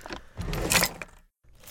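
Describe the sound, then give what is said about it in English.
Keys jangle and clink in a brief rummaging burst, brightest in the middle, then go quiet for a moment before a last short jingle. No one speaks. “Where the hell are my keys?”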